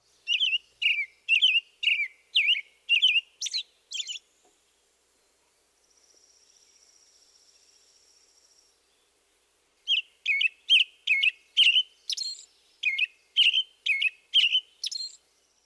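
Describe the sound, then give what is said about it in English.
An American robin sings two bouts of rapid, caroling whistled phrases, each a quick run of rising and falling notes, separated by a pause with a faint, steady high buzz. “One common representation is cheerily, cheer up, cheerily.”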